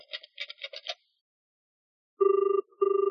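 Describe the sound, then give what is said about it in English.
A quick run of five short keypad beeps as the number is pushed on the phone, then after a pause a telephone ringing tone on the line to the Daily News, two steady buzzing pulses in a double-ring pattern, clear. “It was ringing.”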